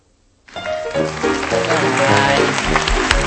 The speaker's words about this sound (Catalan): Aplaudeix-te, tu també. Aplaudeix-te, fes-te un autoaplaudiment.